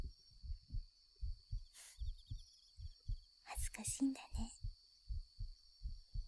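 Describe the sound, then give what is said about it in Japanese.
A muffled heartbeat from the woman's own chest thumps steadily in lub-dub pairs throughout, soft and low, while she whispers briefly over it and a faint high whine hangs in the background. “まあ、そういう私も、今結構ドキドキしてるんだけどね。”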